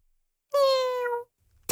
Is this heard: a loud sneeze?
no